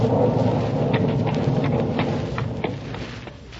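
A steady roar of heavy rain on a golf course during a game, with low rumbling thunder underneath and scattered sharp drips and spatters popping through, no voices present.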